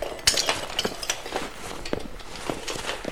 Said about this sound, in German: Schnell helft mir, die Scherben aufzusammeln.